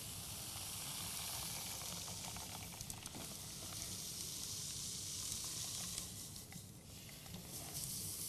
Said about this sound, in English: What I'm going to do now is I'm going to take some of this liquid nitrogen. I'm going to put this funnel into the soda bottle. I'm going to take some liquid nitrogen and pour it into the soda bottle.